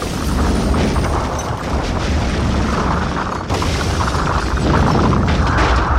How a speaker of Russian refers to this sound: Секунду ничего не происходило, затем стены дрогнули. Раздался взрыв.